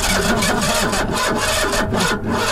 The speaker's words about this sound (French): Bon, c'est quoi ? C'est la voiture volée qui a plus d'essence. Je croyais qu'il avait calé.